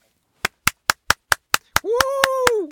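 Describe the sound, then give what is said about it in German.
A single person claps in a steady, even rhythm, about ten sharp claps, and toward the end a sustained voiced tone, rising then falling in pitch, joins the clapping. “Du hast vergessen, dir die Nase zuzuhalten bei deinem Applaus.”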